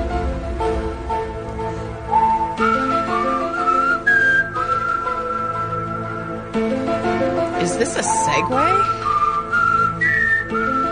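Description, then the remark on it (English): Someone whistles a TV theme tune, a melody of held notes with bending slides over a steady musical backing, while a voice briefly speaks partway through. “whistle TV show themes for us, and we'll have to guess what they yeah, are.”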